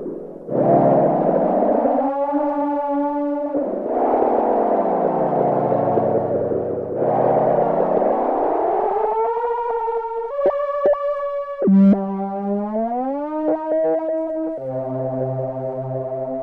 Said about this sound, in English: Can we hear some more of the Swarmatron? Yeah, sure. What would you like to hear? Well? Oh, I'll just play something.